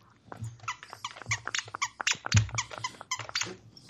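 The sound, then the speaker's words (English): A stuffed plush pizza toy is squeezed over and over as an audio test, in a quick, uneven rhythm, producing a string of loud, high-pitched squeaks with no talking. “Squeak that stuffed pizza toy.”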